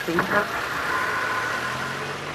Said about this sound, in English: Traffic has almost trebled since the 70s. Anyway, capitals are always busy.